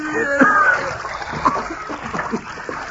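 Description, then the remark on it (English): Water splashes and sloshes in irregular bursts as a person is dredged up through it, with a brief strained vocal sound near the start. “Wait till I dredge him up.”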